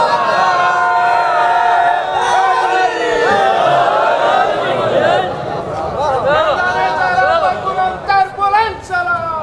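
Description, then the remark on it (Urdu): A large crowd chants religious slogans together in loud, sustained unison, many voices overlapping, then breaking into shorter, uneven bursts toward the end. “ایک مرتبہ آگے اور پیچھے والے نعرے جو ہے وہ ناقص رہ رہے ہیں, آدھے رہ رہے ہیں.”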